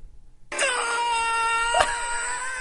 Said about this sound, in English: He kicks him in the nuts and then shoots him with the harpoon gun and he screams